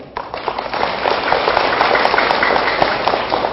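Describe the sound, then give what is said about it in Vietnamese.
A crowd of children claps loudly, a dense, crackling burst of many hands that starts abruptly and holds steady and vigorous for several seconds, with no talking over it. It is a big round of applause given as a pledge to overcome laziness. “Nghe vỗ tay giòn giả là biết các cháu thích rồi đó.”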